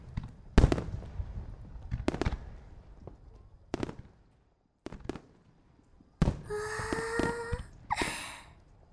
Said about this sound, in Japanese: あ、兄さん見て見て、花火始まったよ。